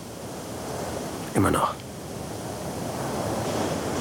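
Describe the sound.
Steady ocean surf and wind roar continuously with a broad, hissing wash, and a voice briefly says a couple of words over it midway through.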